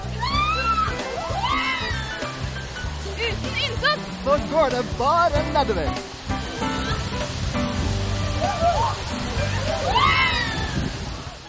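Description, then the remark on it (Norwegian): Water sloshes and churns steadily in the background for the whole stretch, partly masked by a person speaking over it. “Det er vannet, jo.”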